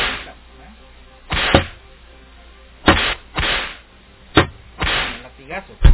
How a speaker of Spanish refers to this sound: Puro latigazo.